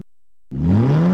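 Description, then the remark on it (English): A car engine kicks in after a short silence and revs hard, its loud growl climbing steadily in pitch as it accelerates. “Rev up your support for KBOO Community Radio. Have an old car taking up space?”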